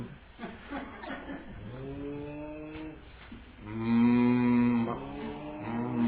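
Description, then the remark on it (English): A person's voice imitates a cow, letting out a few long, drawn-out moos in a row. The loudest call sits in the middle, clear, with no other talking. “Who knows how to make a proper cow noise?”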